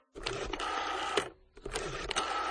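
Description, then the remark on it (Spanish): A telephone being dialed by a train's co-pilot, who has stepped down from the locomotive cab to reach the supervisor at 3 a.m. on 7 August 1963: two bursts of mechanical whirring and clicking separated by a brief pause. No one speaks. “Una vez parada la máquina, el copiloto descendió de la cabina para usar el teléfono que le pondría en contacto con el supervisor.”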